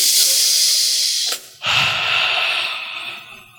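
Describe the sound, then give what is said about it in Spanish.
A deep, airy breath drawn in during a guided visualization exercise, a brief pause, then a long breathy exhale that slowly fades, with no talking. “Vamos, tómame una respiración profunda en este momento.”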